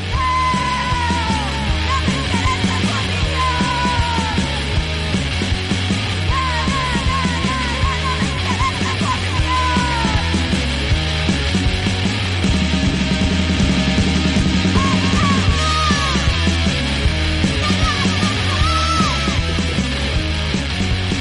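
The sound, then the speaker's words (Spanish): A loud, driving punk song by a band of three women, with a woman shouting the vocals over pounding drums and distorted guitars, the full band steady and dense throughout. “A veces gritando desde el Averno”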